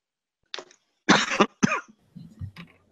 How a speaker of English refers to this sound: Have a sip of water before I choke. I've still got this chesty cough going on, guys, so bear with me.